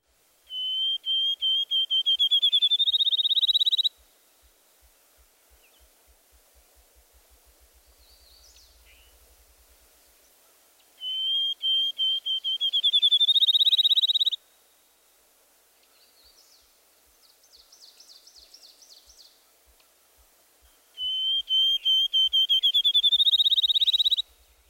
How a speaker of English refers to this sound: Let's take the field sparrow first. His clear introductory whistles quickly increase in rate to create a trill.